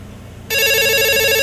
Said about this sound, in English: Has anyone ever heard a phone ring? That sounds like a phone. Have you ever heard a phone ring?